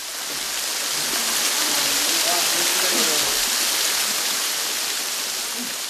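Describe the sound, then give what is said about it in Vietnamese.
A waterfall at The Dells, a quiet tropical rainforest with tall trees at the western tip of Christmas Island, pours down a rock slope resembling frozen lava into a creek below, in a steady, dense rush of white noise that stays loud and unbroken throughout, filling the whole scene. “The Dells là một cánh rừng nhiệt đới rất tĩnh mịch với nhiều cây cao và một thác nước đổ từ một dốc đá trông giống như một dòng nham thạch bị đông cứng xuống một con lạch ở phía dưới.”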